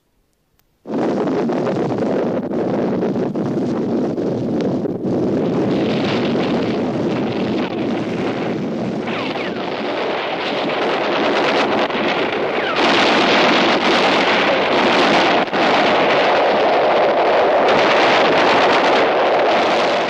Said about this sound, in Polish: Nagle ziemia zadrżała. Świat jakby począł się walić w okropnym huku. Na naszym zapleczu tysiące błyskawic zapaliło się w ciemnych górach. Fale pocisków artyleryjskich, sycząc w powietrzu, przewalają się nad naszymi głowami i suną nieustannie